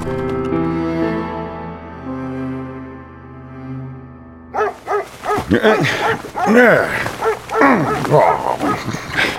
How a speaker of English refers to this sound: The dog's barking woke Tom Peterson.